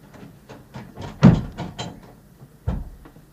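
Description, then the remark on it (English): A door thuds shut, followed by a few sharp clicks and rattles as it is bolted, then a second dull knock. No voices. “I'll go and bolt the door now.”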